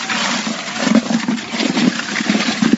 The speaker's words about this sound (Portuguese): Que ferramenta é essa? É uma furadeira com batedor de tinta. É claro que a gente mecanizou aí alguns anos, mas agora tá, mas é dificultoso ainda.